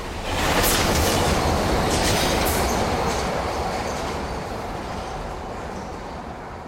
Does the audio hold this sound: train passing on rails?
yes